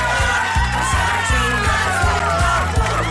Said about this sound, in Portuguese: Cadê os aplausos? Eu quero mais aplausos.